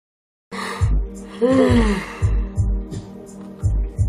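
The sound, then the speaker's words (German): A drawn-out, open-mouthed yawn, with a voiced groan that slides downward, over a steady low thumping beat that continues to the end. “Viel respektloser kannst du halt nicht sein, als Leuten wirklich mit offenem Mund ins Gesicht zu gähnen.”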